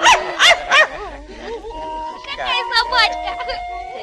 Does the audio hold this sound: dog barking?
yes